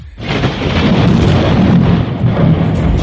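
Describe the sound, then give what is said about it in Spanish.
A loud, continuous rumble of thunder rolls on for about three seconds, deep and broad with a steady roar and no voices over it. “Y de repente, compadre, de repente comienza a sonar los truenos.”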